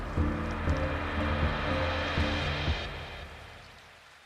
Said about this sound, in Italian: Per ora vive solo la pioggia rombante. Pioggia, pioggia, odore di pioggia che è odore di tuono, di paura. Troppa pioggia, tanta paura.